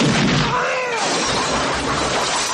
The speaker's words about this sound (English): But Hard to Kill has one of the greatest gunshot sound effects ever for this show, Nowhere in Mulberry. And this is it.